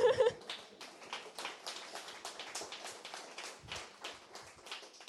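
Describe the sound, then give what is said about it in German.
An audience applauds a comic creator at an evening premiere event with steady, dense clapping that holds a fairly even level for several seconds, after a brief louder burst at the start. “Und den Applaus kann ich auch wirklich so zurückgeben, denn ohne euch und ohne meine Leser und die Fangemeinde und das viele, viele Feedback, das ihr mir gegeben habt, würde ich definitiv jetzt nicht hier stehen”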